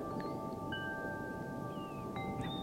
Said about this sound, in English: Oh. Can you hear the wind chimes?